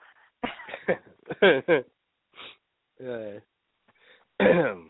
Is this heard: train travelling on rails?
no